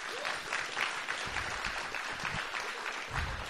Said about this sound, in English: So I think we should give her a clap as well.